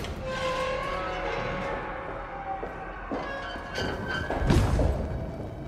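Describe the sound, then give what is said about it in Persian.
A soldier works an iron door lock open, ending in a single heavy metallic clunk that rises over a steady background of sustained humming tones. “سربازی قفل در آهنی و برای زنی که شنل بلندی پوشیده باز میکنه.”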